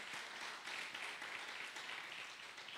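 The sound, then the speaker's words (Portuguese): An audience applauds the Lord in the name of Jesus, a dense, steady wash of many hands clapping at once with no voices rising above it, holding at an even moderate loudness throughout. “Dá mais um aplauso ao Senhor, então, em nome de Jesus.”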